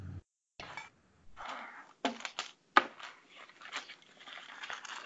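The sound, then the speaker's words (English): Dice clatter across a tabletop in a few separate throws while rolling for character backgrounds, with sharp hard knocks and a scattered rattling tumble between them. The clicks are bright and fairly loud, and no one speaks. “not that we don't love hearing the sound of rolling dice, but.”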